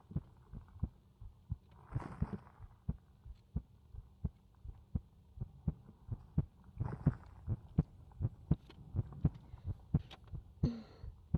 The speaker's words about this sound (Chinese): 把你的头轻轻地靠向我的怀里，温柔地摸着你的头。你真是长大了，有没有听到姐姐心跳的声音呢？